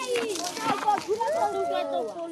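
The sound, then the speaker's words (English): Children in the village of Boikarabelo, South Africa, spin a play pump merry-go-round that draws water from an underground well into an elevated storage tank, their high voices calling, squealing and chattering over one another in a lively, continuous burst of outdoor play. “It's a play pump, a merry-go-round, like a playground toy. As kids spin it around, they draw gallons of pure water from an underground well and into an elevated storage tank.”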